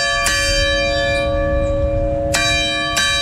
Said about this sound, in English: The bell rang 21 times for each of the victims of the Robb Elementary School shooting 2 years ago on Friday.